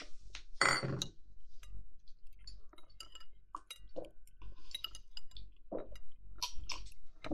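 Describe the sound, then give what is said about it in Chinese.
A bright clink of glasses of cold drinks raised in a toast rings out near the start, followed by scattered soft clicks of cutlery and dishes and chewing sounds, with no one speaking. “本来就是同居，干杯！”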